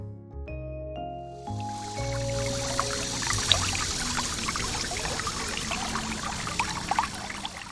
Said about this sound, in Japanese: セミウォンに足を踏み入れると、まず森の中に迷い込んだような涼しげな光景が広がっています。せせらぎが聞こえてくる方に向かうと、 小川が流れていて、その中を歩けるよう平らな飛び石が置かれていました。